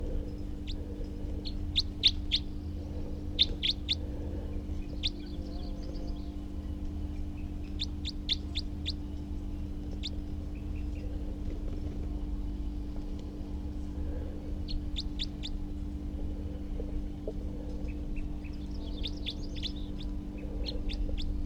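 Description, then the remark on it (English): A wild male bird calls in repeated clusters of sharp, high-pitched chirps, pausing between bursts, over a steady low background hum. “And here's that wild male again, who was calling before, and I have good recordings of.”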